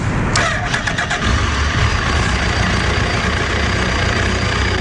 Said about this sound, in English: The bike powers up. Trendy.